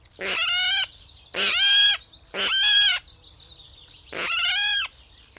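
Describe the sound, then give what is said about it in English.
Four loud, harsh, pig-like squealing calls from a water rail, each about half a second long, spaced in a steady series, with faint background noise between them and no talking. “Like many birds which skulk in the margins of the reed beds, the water rail is best identified by its vocal antics.”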